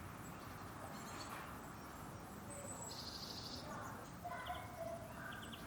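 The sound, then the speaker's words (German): Faint birdsong in the trees: a few short chirps and a brief trill scattered over a steady outdoor hiss, with no one talking, on a below-freezing day in early spring. “Minustemperaturen und hört man einfach schon Vögel zwitschern und machen.”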